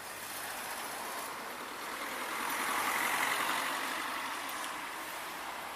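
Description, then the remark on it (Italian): Steady roar of traffic on a seafront road, with one vehicle swelling louder as it speeds past midway, then fading back into the continuous hiss of passing cars. No one speaks. “Le macchine qui arrivano, sfrecciano abbondantemente, senza la minima considerazione.”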